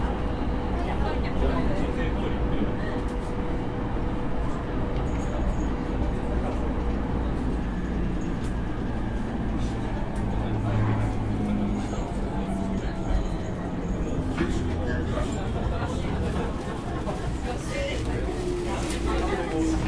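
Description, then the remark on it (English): Steady, loud low rumble from inside a moving commuter train approaching Hamamatsucho station, with continuous rattling and faint muffled voices blending into the background noise throughout. “The next station is Hamamatsucho. The doors on the left side will open.”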